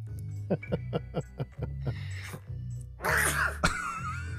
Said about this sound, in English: And he just sneezes randomly.